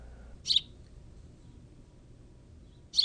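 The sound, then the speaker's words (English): Two short, high-pitched bird calls, spaced a couple of seconds apart, rise above a quiet, steady low rumble. Each call is a brief, bright squeak of similar pitch, and no one speaks. “You know, even if they were more vocally interesting birds, that would be cooler, but these guys are pretty boring.”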